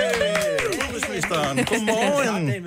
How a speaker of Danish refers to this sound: Godmorgen. Med klapsalver.